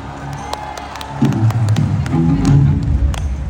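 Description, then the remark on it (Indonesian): A crowd applauds for Latihan Pesta Pora Malaysia with dense, steady clapping, swelling louder partway through as cheers and shouts rise over the claps, sustained for a few seconds. “Sekali lagi tepuk tangan untuk Latihan Pesta Pora Malaysia.”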